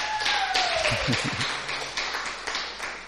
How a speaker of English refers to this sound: Gifted you a very big hand clap.